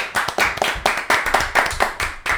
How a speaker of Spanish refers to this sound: Un fuerte aplauso.